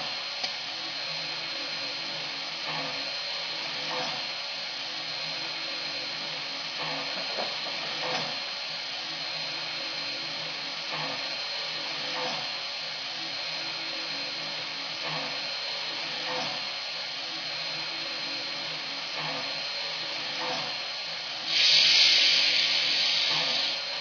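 A steam locomotive hisses steadily and continuously at moderate loudness as it gets clearance to move out to the ready track, then a sharper, louder blast of steam bursts out near the end.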